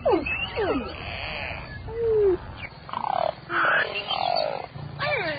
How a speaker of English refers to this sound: These downloads are all free from the Center for Biological Diversity. Find the link at our website, npr.org, and treat those around the sound of your cell phone to a beluga whale.